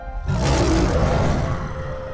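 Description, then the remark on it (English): A huge creature's deep, menacing roar bursts in after a brief pause and rumbles on loudly and steadily for about two seconds, alone with no voices. “And they let out a spine-chilling roar.”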